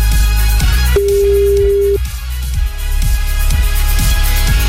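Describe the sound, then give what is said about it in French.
A single steady electronic telephone ring lasting about a second, a listener calling in to a morning radio show, sounds over a loud, rhythmic music bed with a thumping beat that keeps going after the ring stops. “Attention, le téléphone sonne, c'est peut-être le vôtre.”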